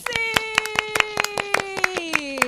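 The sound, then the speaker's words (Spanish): Quick, steady hand clapping in a sung children's game, the clapping standing for scaring away fleas, about a dozen sharp claps in a brisk even rhythm, while a voice holds one long, slowly sinking note underneath. “¿Y cómo se espantan las pulgas? ¡Aplaudiendo!”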